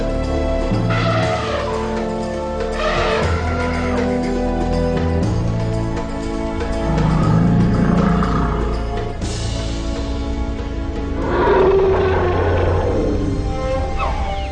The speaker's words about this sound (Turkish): Ve işte yeryüzünün en büyük kara hayvanı.